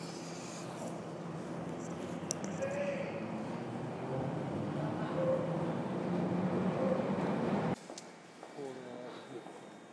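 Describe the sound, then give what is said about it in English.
A steady rumble of a train at the Queen's Park station platform, with murmuring voices and clatter throughout, cutting off abruptly near the end to a quieter background. “We've just been thrown off the train at wherever we are, Queen's Park.”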